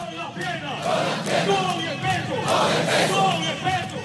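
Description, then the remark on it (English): A large group of troops chants and sings together loudly and steadily, with rhythmic clapping mixed into the crowd noise throughout, as they greet Venezuelan president Nicolas Maduro joining them on Thursday morning. “Thursday morning, Maduro was greeted by troops singing and clapping as he joined them.”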